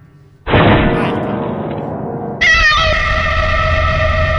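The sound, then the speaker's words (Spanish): A loud, booming crash of a piano erupts and rumbles on, then a cat lets out a sustained, shrill yowl as its tail is caught by the piano, holding steady over the lingering noise. No one speaks. “¡El piano ha matado al gato transgénico! Pues creo que se lo ha pillado la cola.”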